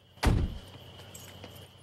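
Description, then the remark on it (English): A car door shuts with a single solid thud that quickly fades as a man gets out of his car on the side of an empty, dark road, followed by a quiet stretch of faint outdoor ambience and small rustles. “He gets out of the car and looks around.”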